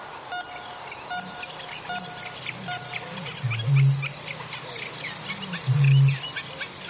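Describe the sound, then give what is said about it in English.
A bittern calling in the fens gives two deep, hollow booms a couple of seconds apart, low and resonant, over a steady background chorus of chirping and twittering birds. “When I can't stand the sound of it any longer, I wander outside to the fens, where the bittern is calling. Always calling.”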